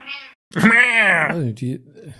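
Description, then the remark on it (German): A female cat named Juna meows several times in quick succession: a short high mew, then a long, loud, drawn-out complaining yowl that bends downward, followed by a couple of shorter meows. “Warum wird da rumgemaunzt? Die ist unzufrieden, die Dame.”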